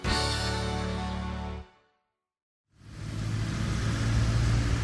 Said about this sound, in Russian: В Москве очень много машин. Они ездят то тут, то там по своим делам, сливаясь в одну большую автомобильную массу.